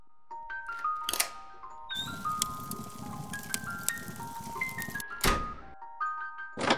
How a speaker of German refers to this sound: Guck mal, da hat sich eine Klappe geöffnet.